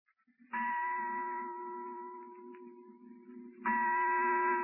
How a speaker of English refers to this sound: The bell you hear is that of St. Charles Chapel, where we have our microphone located. A chapel which, to our knowledge, is the only one of its kind in the Orient.